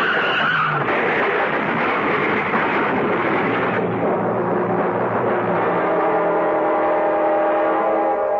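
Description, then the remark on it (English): Car tires squeal loudly in a long, continuous skid, a harsh screeching whine over rumbling road noise that holds for several seconds with no voices: two cars skidding on an icy, hail-covered road in midsummer and sliding into each other. “On an icy road in midsummer, two cars slide into each other, something that usually happens only in midwinter.”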